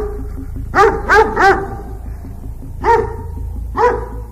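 Cerberus, the fierce three-headed dog of Hades, barks in a quick run of three loud barks, pauses, then gives two more separate forceful barks over a low rumbling background.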